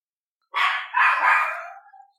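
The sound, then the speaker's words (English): A dog lets out two quick, loud barks, the second drawn out and trailing off into a fading whine, with no one talking. “any chance you could get that dog to bark louder?”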